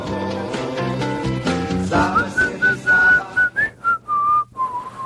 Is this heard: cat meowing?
no